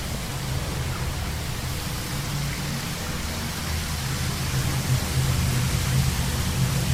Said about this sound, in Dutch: Op de achtergrond hoort u het water uit de bron dat hier altijd stroomt. Er komt flinke damp uit. Het schijnt nu zo'n graad of 40 te zijn. En een gedeelte van dit water gaat naar de baden van de nieuwe thermen.